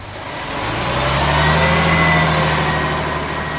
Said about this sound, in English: Yeah, well, there's my bus.